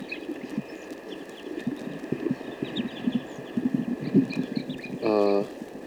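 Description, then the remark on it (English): Crossbill calls from a playback tape placed near a bird net site, where a flock of about 12 to 15 crossbills has arrived. A scatter of short, high, chipping notes repeats over a steady hiss and low knocking thumps, ending with a brief buzzy, tonal burst. “And these are vocalizations of the playback tape, which is near the net site.”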